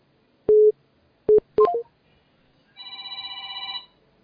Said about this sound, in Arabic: انا اسف اه في رقم بيرن